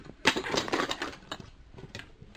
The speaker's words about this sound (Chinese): 切菜直接切啦。